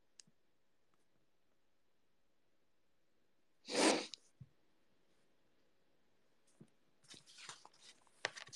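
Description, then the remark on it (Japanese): A single sharp sneeze bursts out loud amid near silence, followed by a few soft clicks and rustling noises toward the end. “くしゃみ浴びた、キモいだろ。くしゃみ助かるもキモいだろ。”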